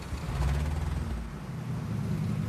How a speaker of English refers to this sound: Okay, just turn the little screw until the engine idles smoothly.